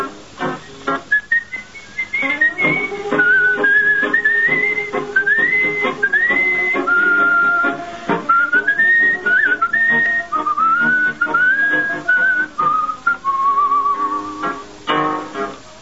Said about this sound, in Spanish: y un reo meditabundo va silbando esta canción.